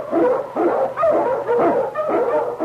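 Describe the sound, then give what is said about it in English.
King, an Eskimo lead sled dog, barks loudly, about half a dozen sharp, yelping barks in quick, steady succession with no voices present. “The Wonder Dog King, swiftest and strongest of Eskimo lead dogs, blazes the trail through storm and snow for Sergeant Preston as he meets the challenge of the Yukon.”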